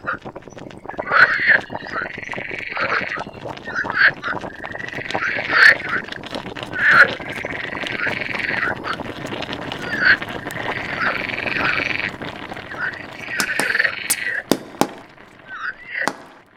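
Frogs croak in a steady chorus of rasping, mid-pitched calls, overlapping bursts repeating every second or two, with a few sharp clicks and pops near the end and no talking.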